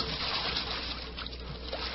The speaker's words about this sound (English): there was nothing but jet black water, flowing swiftly.